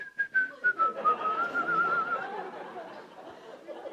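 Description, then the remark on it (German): A person in a church audience whistles one long, steady, slightly wavering note lasting about two seconds, joining everyone else whistling, heard over a dense wash of background noise like other people whistling or murmuring. “Und habe ich angefangen zu pfeifen wie alle anderen.”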